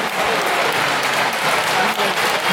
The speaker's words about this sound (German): Das ist Sumo. Applaus.